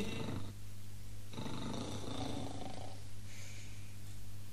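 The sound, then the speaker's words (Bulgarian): Two long, rumbling snores from someone sleeping inside a tree hollow, steady, each a low throaty rasp with a brief quiet gap between them, over a constant low hum and no talking. “Чувам хъркане. От тази хралупа е.”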